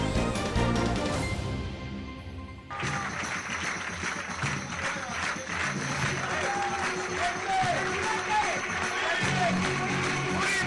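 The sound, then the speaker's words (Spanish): A brief musical sting cuts off into a loud, dense ovation for Alberto Núñez Feijóo and Alfonso Rueda arriving at the Partido Popular national headquarters to celebrate Rueda's absolute majority in Galicia. Sustained crowd applause with cheers and scattered shouts continues steadily for about eight seconds. “Ovación y aplausos a Alberto Núñez Feijóo y Alfonso Rueda a su llegada hoy a la sede nacional del Partido Popular.”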